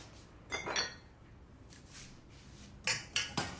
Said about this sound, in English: She walks over to the stove, then grabs a nearby mug from the sink and checks the inside.